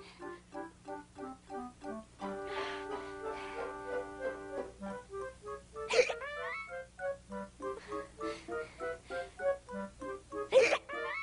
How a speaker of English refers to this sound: Oh, no! They're back! Oh, no! You too, Molly? Oh, we've got double hiccups.